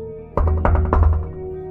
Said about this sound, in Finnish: Siinä oli massiivinen teräsovi, jonka salpa oli lukittu uuden näköisellä munalukolla. Kuntsi koputti oveen.